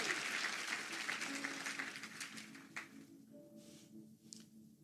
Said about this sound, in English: Glory be to God. You feel free to clap. That's for Jesus, by the way.